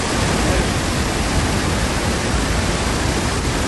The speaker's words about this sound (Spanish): y es tal el estruendo que es que no se ven las cataratas